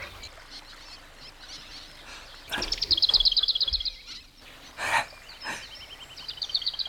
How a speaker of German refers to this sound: Hier scheinen eine Menge Vögel zu leben. Hört ihr?